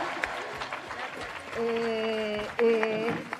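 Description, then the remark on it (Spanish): At a competition final, supporters of the Instituto Príncipe Felipe from the barrio del Pilar applaud in a dense, steady patter throughout. In the second half, sustained voiced cheering rises over the applause, breaks off briefly, then returns. “Estamos palpando los nervios de los dos equipos, tanto del Instituto Príncipe Felipe del barrio del Pilar, que pueden aplaudir los que estén aquí, que vengan acompañando.”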